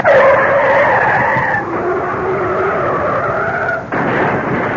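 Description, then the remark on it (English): A car's tires screech in a long, loud, wavering skid lasting several seconds, then the sound breaks off abruptly into a rough, noisy jolt as it hits an oncoming car, with no voices present. “Did you see that? They hit.”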